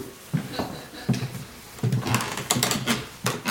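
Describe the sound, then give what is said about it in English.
Creaky floorboards in an exhibition gallery groan and knock underfoot in an irregular series of about half a dozen low, woody creaks and thuds, fairly loud against a faint background hiss, with no talking. “You can hear all the creaky floorboards.”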